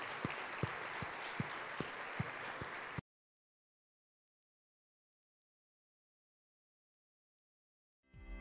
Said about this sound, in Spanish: Dale fuerte ese aplauso al Señor, hermano.